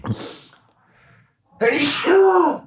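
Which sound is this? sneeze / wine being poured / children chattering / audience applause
sneeze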